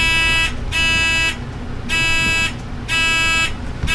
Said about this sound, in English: Have you done a buzzer check? No, none of it.